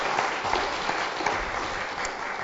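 An audience claps steadily, a dense wash of many hands with no clear rhythm, holding at an even moderate loudness throughout.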